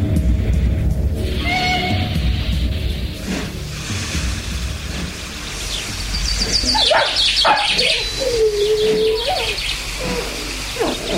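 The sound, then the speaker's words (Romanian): A hungry small dog whimpers for food in thin, high whines: a brief one early on, then a longer drawn-out whine near the end, over steady background noise, with no one talking. “Ce-i mă, cățelul? Ți-e foame?”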